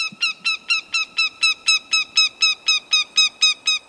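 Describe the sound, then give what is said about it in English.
A northern goshawk calls in a fast, steady series of about fourteen harsh, nasal 'kek' notes, loud and evenly spaced, with no other sounds or voices. “It's a northern goshawk, one of the most fearsome and admired of all birds of prey.”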